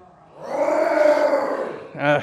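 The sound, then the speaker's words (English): A crowd of people roars together in imitation of a lion, a loud, sustained collective growl lasting over a second, followed by a brief voiced sound at the end. “Let me hear y'all roar like a lion.”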